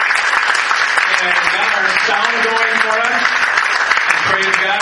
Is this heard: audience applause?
yes